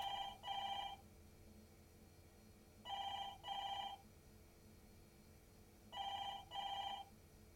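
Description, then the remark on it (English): A telephone rings three times, each ring a double electronic trill with steady pauses between, clear over a low background hum. “Adam and Ian can't come to the phone right now, but if you leave a message, we'll get back to you”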